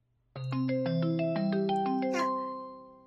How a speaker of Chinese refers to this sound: 是我闺蜜的电话，一定是因为被这个变态贱货给拖延了太长时间，所以等不及了。